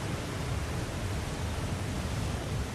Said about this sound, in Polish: Tu mi spada woda.